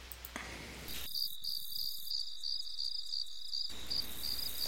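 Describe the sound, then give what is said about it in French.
Many crickets chirp steadily at night in Bronxville in a dense, high-pitched pulsing chorus, continuous, with no voices present. “Une autre chose que je n'aime pas en Bronxville, c'est qu'il y a beaucoup de grillons qui font beaucoup de bruit pendant la nuit.”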